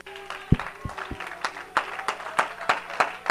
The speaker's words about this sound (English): Oh come on, that's just an applaud. You are to clap your hands to the King of Kings and the Lord of Lords, and you are to shout unto God.